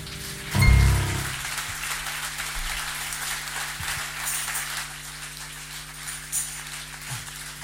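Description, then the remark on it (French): Audience applause after a Father's Day song, a steady, dense patter of clapping that holds at a moderate level for several seconds, with a brief low thump near the start and no voices. “On sait pas trop comment applaudir sur cette chanson, je vous l'accorde.”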